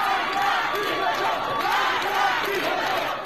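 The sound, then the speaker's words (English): A large crowd of protesters chants "Death to the dictator" together in a crowded street, many voices merging into a loud, rhythmic roar that holds steady throughout. “like the woman sitting above a crowded street, cutting off her hair as the crowd chants, "Death to the dictator."”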